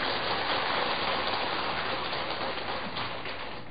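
An audience claps steadily for a few seconds, a dense, even patter of many hands with no voices, easing off slightly toward the end.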